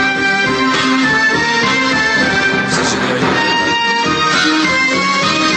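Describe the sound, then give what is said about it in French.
A loud orchestral film melody, the Jaws theme with its first notes cut and shifted up three semitones, plays steadily throughout with dense, sustained harmonic tones and no voices. “Vous coupez les premières notes et vous changez un petit peu la tonalité, vous montez de 3 demi-tons.”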